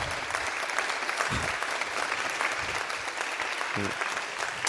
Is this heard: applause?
yes